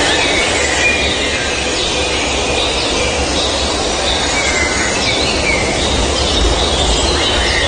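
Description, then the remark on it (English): A dense, steady chorus of frogs fills a forest soundscape, a loud continuous wash of shrill high trilling and croaking over a low rumbling bed, with no voices. “Hear a little bit of the forest and nature sounds.”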